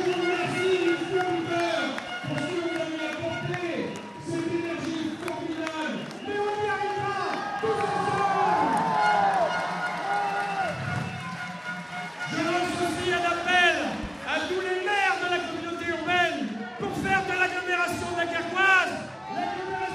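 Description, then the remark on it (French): An election night crowd chants and applauds loudly, many voices overlapping in a continuous, energetic din that swells and dips without a break. “Sous les chants, les applaudissements, c'est péniblement, en sueur, que Patrice Vergriet accorde quelques instants à la presse.”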